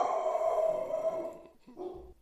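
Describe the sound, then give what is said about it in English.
The speaker's dog lets out a long, drawn-out howl that holds steady for over a second and trails off, followed by a shorter, lower howl. It sounds clear, with no talking. “Oh, could you not hear that insane howl?”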